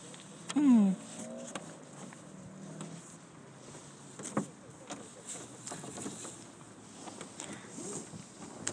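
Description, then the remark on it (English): Sailboat rigging creaking and knocking while out on the water on a sail: a drawn-out rope creak near the start, then soft scattered taps and rustling sail cloth over a quiet, steady wash of open-air background noise. “It's all the cloths and the ropes.”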